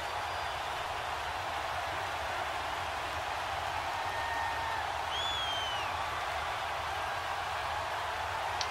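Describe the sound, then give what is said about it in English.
A large home stadium crowd cheers a pass interference penalty call in a steady, dense roar that holds at an even level throughout, with a few high whistles cutting through. No one speaks. “This home crowd, they're happy with that call.”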